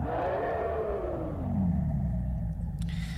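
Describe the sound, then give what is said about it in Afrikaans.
A loud, deep T-Rex dinosaur roar sound effect lasting about three seconds, its pitch sliding steadily downward into a rumbling growl, continuous, with no talking. “Of, hoe hard 'n T-Rex kan brul?”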